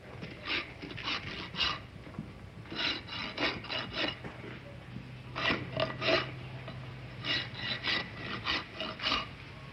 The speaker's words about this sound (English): 10, take one, filing horse's hoof.